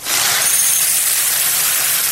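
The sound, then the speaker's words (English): Dry cereal pours steadily into a bowl, a dense, continuous hiss of tiny pieces rattling together, bright and fairly loud for about two seconds, with no one talking. “That sounds like when my kids pour cereal.”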